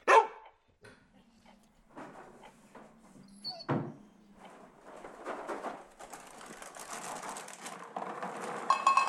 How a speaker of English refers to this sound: What the hell? Who's there? Damn it, dog, you scared me.